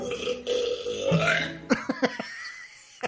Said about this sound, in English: I just broke the world record for women's loudest burp.